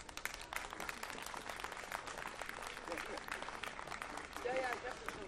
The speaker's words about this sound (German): Jetzt kleinen Applaus für den Hutträger.